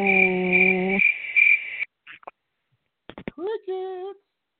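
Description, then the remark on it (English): A steady, high-pitched cricket trill pulses for about two seconds over a low droning tone, then gives way to silence, a few sharp clicks and a brief warbling tone. “Crickets.”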